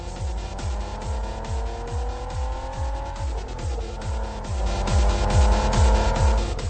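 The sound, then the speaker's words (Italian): An older petrol car engine from the era of leaded fuel roars with a throbbing, pulsing rhythm, its pitch dipping briefly midway as it brakes with a sucking intake sound, then swelling louder toward the end. “Sì, ma il bello di quelle macchine lì era il risucchio in staccata.”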